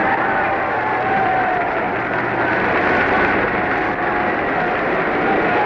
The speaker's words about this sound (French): Vous entendez les acclamations qui saluent non seulement le chef de l'État, mais aussi le chef du gouvernement, le président Édouard Daladier.